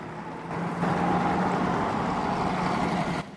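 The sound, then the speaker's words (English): A bus engine pulls away: a low, steady rumbling drone with a humming whine kicks in and holds fairly loud, then cuts off near the end. No one speaks. “As the bus pulls away, Billy runs to the back, bangs on the window and shouts, "I can't hear you."”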